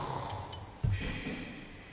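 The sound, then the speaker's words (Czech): A man snores with a single rough, snorting inhale that swells, surrounded by quiet breathing and a faint background hiss. “On je chrápe, já ti to nevěřím, že spíš.”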